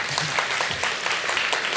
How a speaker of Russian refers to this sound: Надо, тут должны быть аплодисменты.